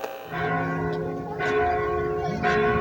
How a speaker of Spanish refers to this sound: En cuanto la escucharon, comenzaron a sonar las campanas de la parroquia del pueblo para alertar a la comunidad.